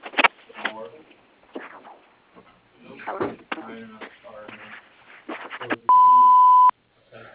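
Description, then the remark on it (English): A single steady electronic beep, about a second long, sounds right after the recorded greeting of the Copeland Renovation and Constructions answering machine, signalling to start recording a message. “Please leave a message and we will return your call as soon as we can.”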